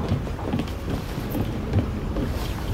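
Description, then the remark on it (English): A boat engine runs steadily with a deep, throbbing rumble and a faint rhythmic chug, mixed with wind and water noise. It's fairly loud, with no voices. “Hey, nicely done with the engine, kid.”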